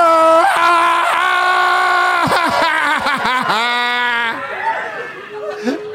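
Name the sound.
audience yelling loudly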